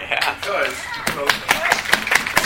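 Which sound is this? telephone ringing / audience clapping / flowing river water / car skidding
audience clapping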